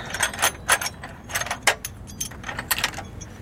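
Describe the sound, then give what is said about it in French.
Scissors being picked up and handled, giving a series of light metallic clinks and rattles in quick, irregular bursts, with no talking. “Donc je prends mes ciseaux maintenant.”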